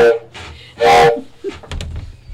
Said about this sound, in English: Dad, I think I hear a train.